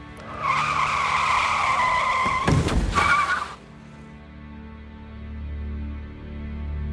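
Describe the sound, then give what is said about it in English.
A big car skids with a loud, sustained tire squeal lasting a few seconds, ending in a sharp burst, then a low engine rumble lingers. “That big, ugly car would flatten me.”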